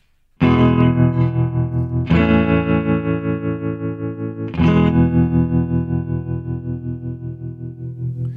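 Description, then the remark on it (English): A Stratocaster electric guitar strums three sustained chords, each ringing out with a steady wavering vibrato from its built-in vibrato and a wash of reverb, played fairly loud with no one talking. “It's just built-in vibrato and the some reverb, Stratocaster.”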